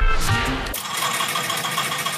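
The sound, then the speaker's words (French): The small two-stroke engine of a Trabant car rattles and sputters in a steady, buzzy drone, with a brief throatier burst at the start before settling into a continuous, slightly uneven putter. “c'est pas le bruit d'une Ferrari, ni d'une casserole, quoique, c'est la pétaradante Trabant, car en ce jour anniversaire de la chute du mur, il y a tout juste 30 ans, on a en mémoire ces milliers de Trabants,”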